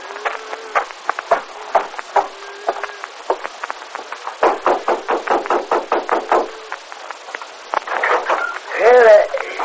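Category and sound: household object, knocking on a door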